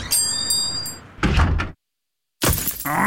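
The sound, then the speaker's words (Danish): A stone chip strikes a car windscreen with a sharp, ringing glassy ping, followed by heavier bursts of thumping noise, a sudden silence, then another loud burst of rattling. “Et stenislag!”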